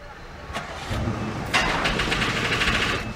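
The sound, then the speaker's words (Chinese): An old car engine turns over with a few rough bursts, then keeps running in a steady, noisy, uneven rumble with rattling knocks. “哎，我看这辆车真的是开了太多年了，车已经老了。”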